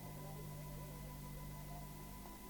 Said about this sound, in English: Do you hear it? The curious humming sound that seems to come from inside the object. I'll move the microphone nearer. Here. Now, we're not more than 25 feet away. Can you hear it now?